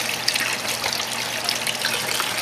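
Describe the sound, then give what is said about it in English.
Cold tap water runs steadily over a raw chicken as it is rinsed off for cleaning, a continuous hiss and splatter with small irregular surges and no voices. “So I'm just going to rinse it off with some cold water.”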